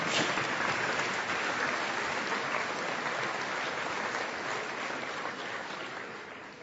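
An audience claps steadily in applause for the parents at a private school event, a dense, even patter of many hands that holds at a moderate level and tapers slightly toward the end, with no voices over it.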